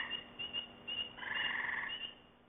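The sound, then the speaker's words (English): A chorus of frogs calls: sharp single peeps from spring peepers layered over a long buzzing trill from an American toad and repeated shorter trills from gray tree frogs, with no voices present. “If you guessed all frogs, you're right.”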